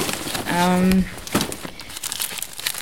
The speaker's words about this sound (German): Ja, ich habe hier meine Papiere, ich muss hier mal ein bisschen kramen.